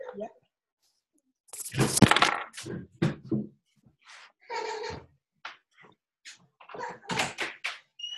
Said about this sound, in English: All right, I'm just going to open the door because my son is knocking. So give me just 1 second.